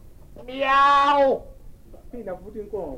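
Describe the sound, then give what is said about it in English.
A person imitates a cat's meow: one drawn-out, nasal meow, fairly loud, that slides downward at the end, followed by a few moments of quieter talking. “And the cow looked up and said, "Meow."”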